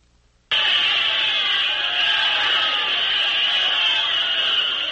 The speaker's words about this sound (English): This is Observer One on the roof of UN headquarters in New York. A cheering, shouting throng is voicing its enthusiasm for the dramatic efficiency with which the first gunless, bloodless, and creative blitz in the history of the world is taking place